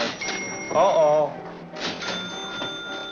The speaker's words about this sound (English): Every time you hear a bell rings, it means that some angel's just got his wings.